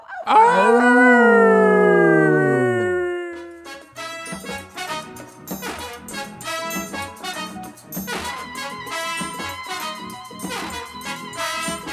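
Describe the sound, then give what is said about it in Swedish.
A loud, drawn-out wolf-like howl from human voices rises and then falls over about three seconds before fading into a music track. “Ylar vi på det så hörs vi nästa vecka, gott folk.”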